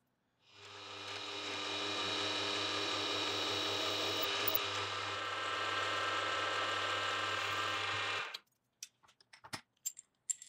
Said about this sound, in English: The front also needs a bevel, but first I'll drill the center hole by clamping two jaws together.